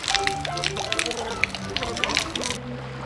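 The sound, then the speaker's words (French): Potato liquor splashes and sloshes as bottles are emptied one by one from the top of a lighthouse, pouring out steadily for a few seconds, a continuous wet spattering with muffled voices murmuring underneath. “il vide les bouteilles une par une.”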